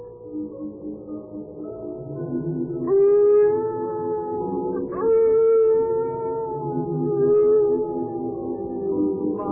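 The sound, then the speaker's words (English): A big dog howls in long, drawn-out wails that rise and waver in pitch, with several swelling cries running continuously across the stretch, fairly loud, with no one speaking. “Mother, do you love the new dog your father brought you?”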